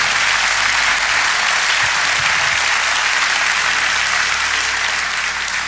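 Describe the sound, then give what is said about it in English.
An audience applauds steadily, a dense, loud wash of many hands clapping that holds at an even level for several seconds without pause or voices. “If you don't clap for that, you're not gonna clap for anything.”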